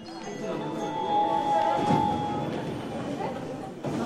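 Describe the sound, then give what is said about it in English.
Inside a moving commuter train riding into downtown Tokyo, Japan: a steady rumbling drone with a thin, sustained whine riding over it, and indistinct passenger murmur blending into the background. “Brown is happy here, riding the train into downtown Tokyo for games, alongside weary salarymen and dolled up Harajuku girls.”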